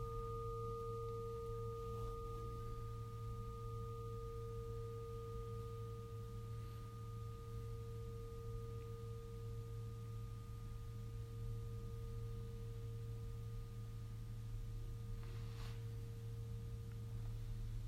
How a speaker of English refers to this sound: So just listen to the bell.